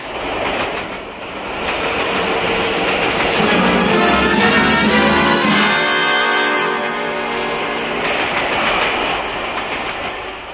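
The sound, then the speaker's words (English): A train rumbles steadily along the rails, its wheels clattering in a continuous rhythmic clack, loud, with a harsh rushing swell in the middle and no voices. “When I finished my meal and went back along the swaying corridor, I was enthralled by the human pageant of this great train.”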